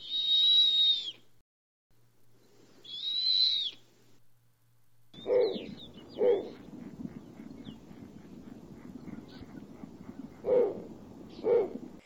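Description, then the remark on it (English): Two drawn-out, high-pitched slurred whistles of a snowy owl, followed by a series of harsher, lower barking calls repeated at intervals against faint background noise; snowy owls give these calls to warn each other away from their nesting territories on the tundra around the North Pole. “They warn each other away by making high-pitched, slurred whistles or sharp sounds which have been compared to a duck's quack or a dog's bark.”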